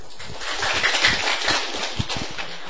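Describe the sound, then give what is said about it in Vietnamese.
A crowd claps steadily for a few seconds, a dense, even patter of many hands with no voices over it. “Quý vị cho một tràng pháo tay.”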